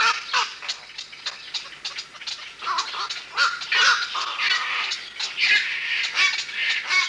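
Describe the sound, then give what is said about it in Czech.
A dense chorus of harsh, croaking calls from a large colony of black-crowned night herons in a bird reserve in South Bohemia, Czech Republic, many birds overlapping continuously with repeated loud squawks rising above the din. “Takto se ozývaly nejkrásnější naše volavky. Kvakoši noční, ve velké kolonii v naší největší jihočeské ptačí rezervaci, Velký a Malý Tisí.”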